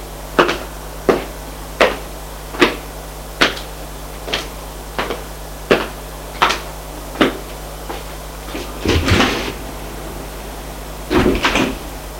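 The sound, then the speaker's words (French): An elevator ride in an apartment building: a steady low mechanical hum with a regular series of sharp clicks, followed near the end by two louder rattling bursts like doors sliding. No one speaks. “Ils vont prendre l'ascenseur.”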